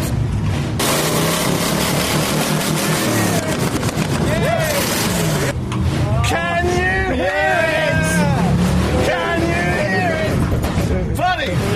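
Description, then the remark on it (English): A loud, roaring monster truck engine revs up and down amid dense crowd noise, with pitch sweeping in repeated surges. Voices shout over the din throughout. “Oh, they got a monster truck over there.”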